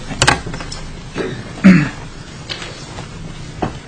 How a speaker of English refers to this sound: Chairs on wheels.